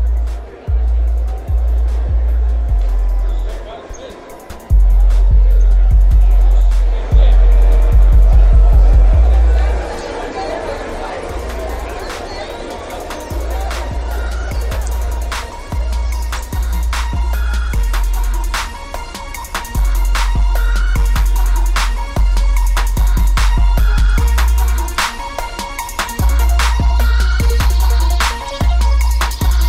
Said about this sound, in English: ওই দূরে গাড়িতে বেশ বাজছে স্যার, বেশ শুনতেছে আসলে তোরে, মানে র‍্যাপ করতেছে।